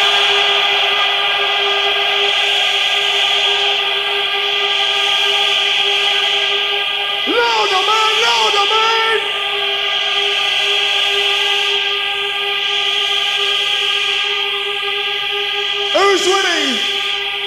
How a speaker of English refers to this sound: I want you to blow your horns, your whistles, scream, any fucking shit. Are you ready? …, tell them what time it is, man!